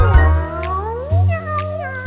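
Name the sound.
cat meowing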